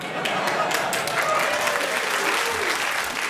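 A large audience at the Drill Hall, just off London's West End, bursts into sustained, dense applause with cheering mixed in, a steady wash of clapping that stays loud and even throughout.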